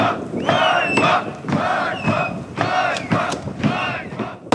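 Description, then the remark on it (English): A crowd of protesters in a government security drill, staging a takeover of government buildings, shouts in loud, repeated bursts, roughly four rhythmic chants of raised voices with a steady roar of the crowd underneath. “this was one where there were a bunch of protesters the government sees as potentially instigated by Russian sympathizers taking over government buildings”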